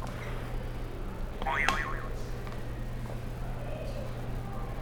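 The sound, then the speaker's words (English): A buzzer is pressed during a multiplication practice: a short game-show sound effect in which a wobbly, warbling tone bends up and down for about half a second over a steady low hum, with no one speaking. “Alright, so can you press another buzzer?”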